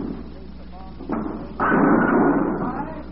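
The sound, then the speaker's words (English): A bowling ball rumbles down the lane, then a loud, sustained clatter of pins being knocked down, with a low murmur of voices underneath. “Sending your money knocking pins down.”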